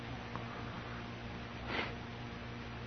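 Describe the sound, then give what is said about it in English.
A single short sniffle, a quick breathy rush of air through the nose, fairly faint against a steady low background hum, with no one talking. “I heard the sniffles”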